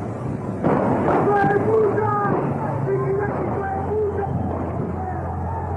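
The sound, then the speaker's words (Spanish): A sudden dull boom of a tear gas canister being fired by police at protesters, followed by a few sharper pops amid a loud, restless crowd, with wavering whistle-like tones sounding over the commotion. “Parece que fueron disparadas algunas cápsulas de gases lacrimógenos.”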